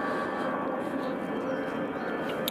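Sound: airplane taking off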